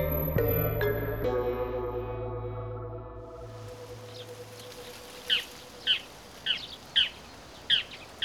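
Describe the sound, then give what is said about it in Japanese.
A low, ringing tone fades out, then outdoor ambience settles in and a migrating winter bird calls about six times, short bright chirps repeating at a steady pace, clear against quiet background noise. “ああ、とうとう冬鳥も渡ってくる時期になったわね。”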